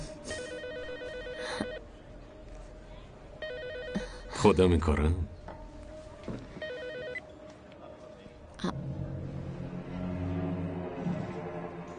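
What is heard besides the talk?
telephone ringing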